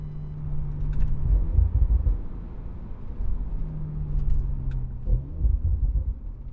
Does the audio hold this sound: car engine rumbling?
yes